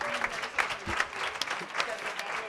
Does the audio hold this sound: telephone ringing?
no